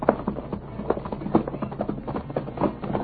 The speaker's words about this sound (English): At times, the path fell away so abruptly, they were unable to keep their balance and went slipping and sliding downward. The men grasping at the stunted vegetation to check their speed. The horses digging their hoofs into the crumbling earth.